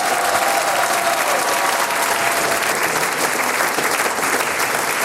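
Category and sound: crowd, audience applause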